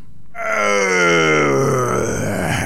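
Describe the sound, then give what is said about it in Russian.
The dragon Zmey Gorynych roars in a loud voice after throwing a dead body to the ground, one long, drawn-out bellow that starts abruptly after a brief silence and slowly falls in pitch, growling, with no talking. “Увидал змей Горыныч Добрынюшку, бросил мертвое тело на земь, зарычал громким голосом.”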